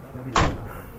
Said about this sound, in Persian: خب من در رو باز میکنم، مسافرها رو سوار میکنم. با کنترل W میتونین مسافر سوار کنیم. سوختمونم که کامله. در رو میبندم